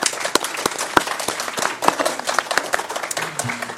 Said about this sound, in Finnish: Kiitoksia panelisteille. Aplodit varmaan paikallaan.